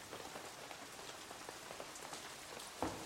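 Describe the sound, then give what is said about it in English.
Heavy torrential rain pours down in a steady, dense hiss, thick with countless small drop patters and one sharper splat near the end. No voices. “Stepping out from under the shaky cover of the ruined building, you are immediately bombarded by a million little drops of water. This isn't a sprinkling or a splash. It's practically a torrent.”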